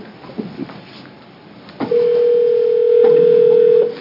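A brief click, then a steady telephone dial tone drones evenly for about two seconds before cutting off, with faint handset clicks and rustles at the start and no one speaking, as a call is placed to the City of Prineville Railroad.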